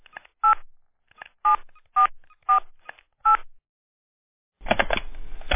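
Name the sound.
telephone keypad dialing tones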